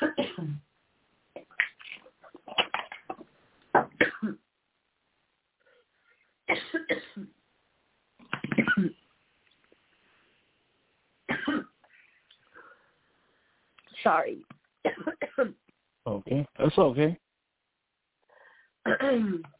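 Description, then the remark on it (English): A woman coughs in repeated harsh, broken bursts with short gaps between them after a sip of water went down the wrong pipe, briefly apologizing and speaking a few words between the coughing fits. “I took a sip of water and it went down the wrong pipe.”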